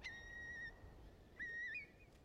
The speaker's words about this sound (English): And I heard that a lot. Oh, that's the Curlew. My goodness, I'd forgotten about that.